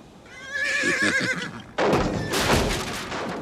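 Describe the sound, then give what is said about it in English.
A horse in a barn whinnies, a loud, quavering neigh lasting over a second, followed by a burst of breathy, rustling noise as it snorts or shifts. “runs to a barn and the sound of the horse.”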